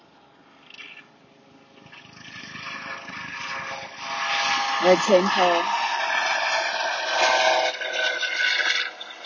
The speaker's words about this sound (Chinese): 有直升机，我要等直升机先过去。